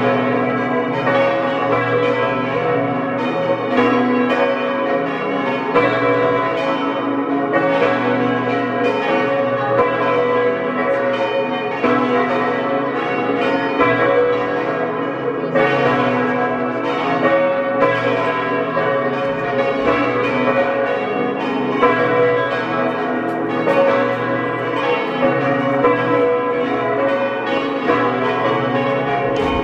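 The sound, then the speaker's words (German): The bells of the parish church of St. Alban in Matrei in Osttirol ring at 12 o'clock noon, several pealing together in a dense, continuous wash of overlapping tolls, loud and steady for the whole stretch, with rich ringing overtones and no voices. “Sie hören die Glocken der Pfarrkirche zum heiligen Alban aus Matrei in Osttirol.”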